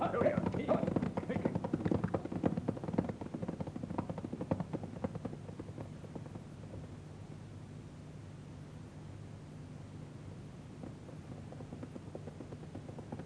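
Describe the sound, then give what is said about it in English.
Horses' hooves, including pack horses and a horse named Storm, clip-clop in a steady, rhythmic patter on a trail heading toward the desert, clearest at first and then growing fainter beneath a constant hissing background. “Don't let the pack horses drag, Ralph. Keep them stepping along.”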